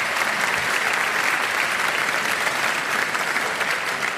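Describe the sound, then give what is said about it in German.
An audience claps steadily for several seconds in thanks to the sponsors Rheinenergie and Lanxess, a dense, even wash of many hands at a fairly loud level, with no voices standing out. “Auch bitte hier einen herzlichen Applaus.”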